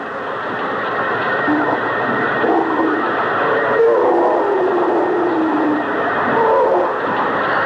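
A drill grinds steadily through material, a loud, unbroken roar with a wavering mid-pitched whine that rises and dips for the whole stretch, with no voices over it.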